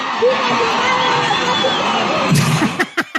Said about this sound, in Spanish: Y luego le gritan a la señora Chapoy, a ver si eso sí lo alcanzan a escuchar, ¿eh? Ahí les va. A ver.